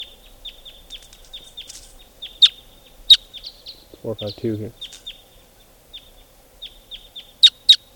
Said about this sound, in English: And wild type 2 birds are flying over.